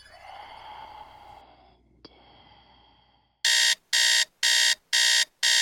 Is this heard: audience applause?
no